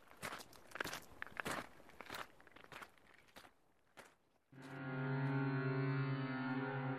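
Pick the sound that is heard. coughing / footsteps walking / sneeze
footsteps walking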